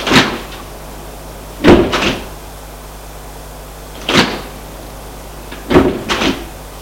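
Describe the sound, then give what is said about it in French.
Elevator doors in an apartment building slide and thud shut several times, each one a short mechanical clunk with a brief rumble, over a steady low hum in an otherwise quiet space. No one speaks. “Une fois sortie de l'ascenseur, elle va ouvrir la porte de son appartement.”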